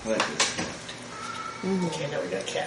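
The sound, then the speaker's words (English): A cat meows a couple of times, drawn-out, after a few sharp clattering knocks at the start, over a faint background. “Okay, now we got cats.”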